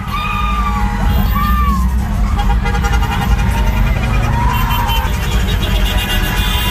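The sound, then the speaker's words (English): A pre-game street parade in Samoa: steady engine rumble from passing cars carrying Samoans waving their flags, a dense crowd of fans screaming and cheering on the sidelines, and shrill whistles or horns rising above the din throughout. “Samoans and their cars waving their flags, fans screaming and cheering on the sidelines.”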